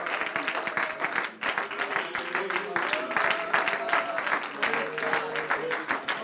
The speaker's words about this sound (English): Well, why don't you give the Lord a hand clap of praise this morning? Thank God.